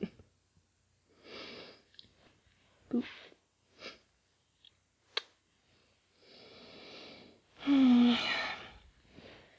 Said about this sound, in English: You snore so loudly when you sleep on your back.